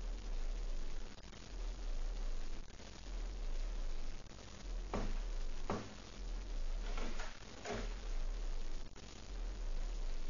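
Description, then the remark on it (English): A handful of footsteps of someone coming to the front door thud at an uneven pace, growing more frequent, over a constant low hiss with no one talking. “Footsteps. Someone's coming to the front door.”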